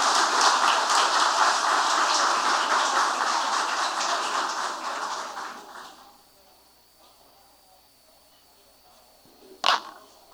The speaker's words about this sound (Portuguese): Então, por isso, Simone, você tem que ser aplaudida. Obrigada, viu, por cuidar tão bem das nossas crianças, tá?